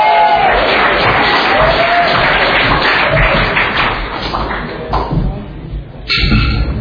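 An audience at an Alcoholics Anonymous meeting applauds loudly and steadily for the evening's speaker from Laguna Hills, with cheering and a few high whoops mixed in, a dense wash of clapping that dips briefly near the end before swelling again.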